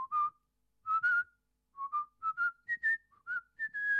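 Someone whistles a short melody up close, clear pure notes in quick phrases separated by brief pauses, the pitch climbing gradually and ending on a longer held note. No talking.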